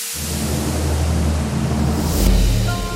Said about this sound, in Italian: Le cascate del Niagara, i ruscelli di tutto il mondo si uniscono.